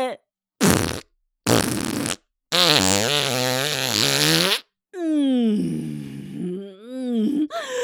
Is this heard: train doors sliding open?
no